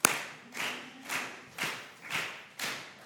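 Hands clap along to a song sung to the Lord in a steady, even rhythm, about six sharp claps roughly half a second apart, clear, with no voices over them.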